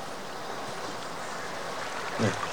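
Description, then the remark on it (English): A river in the grounds flows with a steady, even rush of water, a soft continuous wash throughout, broken only by a brief louder murmur near the end; Rochester stands at its edge. “Jane makes her way over to Rochester, who's standing at the edge of a river.”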